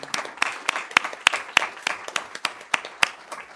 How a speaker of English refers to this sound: So with that, we say thank you on behalf of this board, and the community says thank you. So I'd like for this board to give them a round of applause for everything.